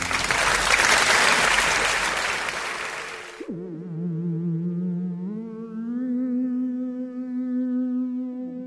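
A loud burst of audience applause fills the first few seconds, then cuts off abruptly into sustained electronic tones with sliding pitches.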